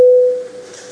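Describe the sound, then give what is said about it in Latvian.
A parliamentary bell sounds before a vote on the urgency of a bill amending the law on support for Ukrainian civilians: a single clear electronic tone with a sharp start, holding steady and loud before fading into a faint lingering ring; no one speaks. “Lūdzu zvanu.”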